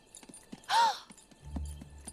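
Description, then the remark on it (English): Horse hooves clip-clop in a loose, uneven rhythm as Preminger appears riding the horse, with a loud breathy snort partway through and a low rumble rising underneath toward the end. “Preminger appears atop a horse, his shoulder-length white hair parted down the middle.”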